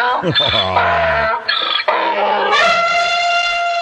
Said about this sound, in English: Play a donkey for me. You got a donkey?